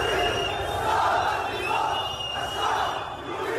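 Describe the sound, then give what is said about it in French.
A large protest crowd in Lebanon chants in rhythmic, swelling waves, denouncing corruption and demanding the fall of the government, many voices shouting together at a steady, loud level with a dense roar of background noise throughout. “La foule dénonce la corruption et exige la chute du gouvernement.”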